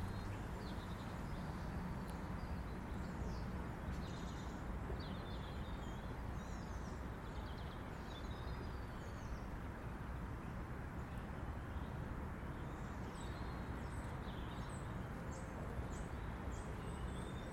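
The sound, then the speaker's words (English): Several birds sing and chirp continuously in an urban park with leafless trees, over a steady low rumble of city traffic, their calls faint and overlapping throughout, with no one speaking. “I'm amazed how much birdsong there is in this urban park, really.”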